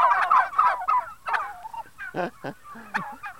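Turkeys gobble up close in loud, rapid warbling bursts, several calls tumbling over one another and then trailing off into a few shorter, separate gobbles.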